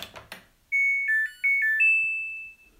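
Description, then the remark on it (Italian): A Samsung washing machine's power-on jingle after the power button is pressed: a few quick clicks, then a bright electronic melody of five or six high beeping notes, ending on a longer sustained tone that fades out. “Considerate che le lavatrici Samsung sono coreane, per cui mettono musichine di ogni genere sempre.”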